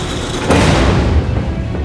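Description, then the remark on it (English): A heavy cargo bay door at the back of a spaceship grinds open with a deep, rumbling mechanical roar that swells suddenly and then holds steady, thick with low booming resonance and a hiss on top. “Barrington, that cargo bay door is opening.”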